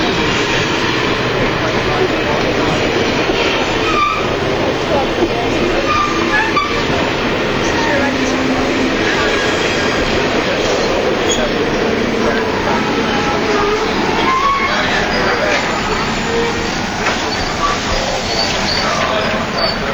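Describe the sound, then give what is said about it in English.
An Amtrak passenger train rumbles loudly and steadily, a dense continuous roar with faint squealing tones and clatter running throughout, and muffled voices occasionally mixed underneath. “To see an Amtrak train.”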